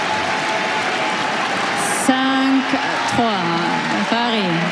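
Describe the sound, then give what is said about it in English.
A tennis crowd reacts as Parry wins a mini break against Anisimova in the tiebreak after a forehand into the net: a steady wash of crowd noise with scattered applause, then individual voices calling out and whooping over it, loud, sustained for several seconds. “You hear what the crowd think of that.”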